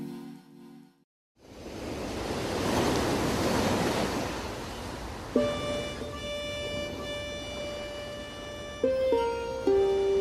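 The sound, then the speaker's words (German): North Sea waves on the west coast of Schleswig-Holstein wash calmly and steadily against beaches and dikes in a soft, continuous rush, joined about halfway through by sustained musical tones layered over the surf. “Meistens plätschern die Wellen hier eher ruhig und gemächlich an die Strände und gegen die Deiche.”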